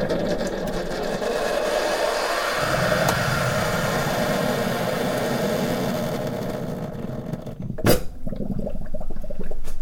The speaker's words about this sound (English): you pop your mug underneath, you press the button, you can hear that the water's beginning to boil, and when it's ready and it's hot enough, it very conveniently dispenses one mug of boiling hot water.